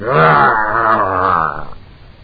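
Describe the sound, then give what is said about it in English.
A man in a dog costume, prancing on all fours by a stairwell, imitates a dog, making a sustained, strained growling grunt in his throat for about a second and a half before it trails off. “He occasionally leaped off the rug and came down, making dog grunts in his throat. Woof! Woof! Bow!”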